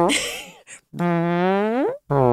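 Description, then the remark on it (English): A voice makes a mouth imitation of farting, a short burst followed by a long drawn-out buzzy raspberry that bends upward at the end, then another begins; loud. “We also make farting sounds all the time.”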